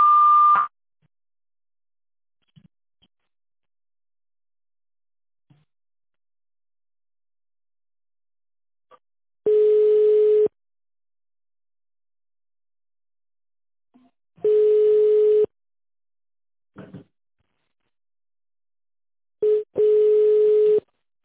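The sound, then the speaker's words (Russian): Long, steady telephone beep tones, each lasting about a second, repeat at regular intervals with silence between, a flat electronic pitch like a phone line ringing back; no one speaks. Heard on a call to the automated phone line of the Pyatigorsk bathhouse and mud clinic. “После длинного сигнала переведите ваш аппарат в режим тонального набора и наберите внутренний пятизначный номер.”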